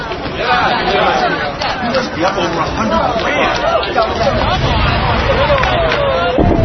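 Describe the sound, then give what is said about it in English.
A dense, steady hubbub of many overlapping voices, loud and continuous throughout, with no single speaker standing out from the crowd chatter. “Great crowd, right away.”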